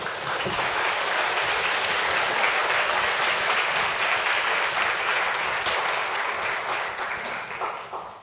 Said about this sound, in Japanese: それではもう一度拍手を持って先生を歓迎したい。